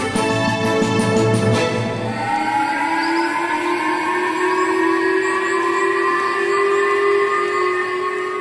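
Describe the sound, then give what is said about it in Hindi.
A loud missile warning siren on Japan's Hokkaido island wails without pause as North Korean ballistic missiles pass overhead, opening with rapid pulsing bursts before settling into a steady, harmonically rich tone that slowly climbs in pitch. No voices are heard. “ये आवाज है जापान के होकाइडो द्वीप पर बजे मिसाइल अलार्म की।”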